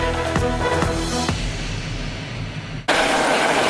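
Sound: police helicopter flying overhead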